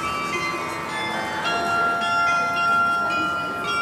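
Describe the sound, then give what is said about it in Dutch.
A tune rings out on bells, several bright sustained tones sounding one after another and overlapping as they fade, with a steady shimmering hum of ringing beneath. No voices are heard. “Ik vind het ook een heel leuk melodietje eigenlijk. En hij is best wel zuiver voor klokken.”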